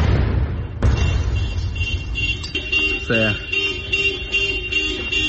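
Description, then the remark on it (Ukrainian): An FPV drone strikes a car right next to a hospital in Druzhkivka: a sudden explosion bursts out early on, followed by a lingering rumble and a muffled, noisy aftermath with faint wavering tones and indistinct voices in the background. “На території лікарні жахнули.”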